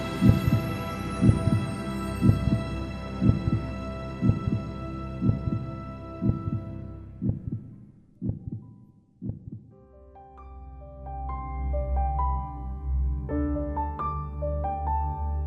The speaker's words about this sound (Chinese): 身处一片一望无际的黑暗当中，除了听到自己的心跳，四周完全寂静，毫无声响。